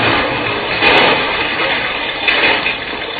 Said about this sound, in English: A charge of dynamite brought down the whole ledge.